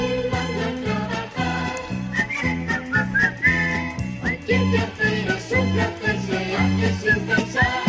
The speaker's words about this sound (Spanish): Sí, pero si hay una película del genio de la animación en la que se silba mucho, esa es Blancanieves.